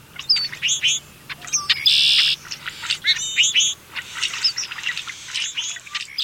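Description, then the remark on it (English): A dense chorus of a flock of red-winged blackbirds, many overlapping chirps, whistles and harsh buzzy trills pouring out continuously from the busy flock with no pauses. “Forming large groups seems to be an integral part of the life of most species of blackbirds, from cowbirds to grackles to these red-winged blackbirds we're hearing.”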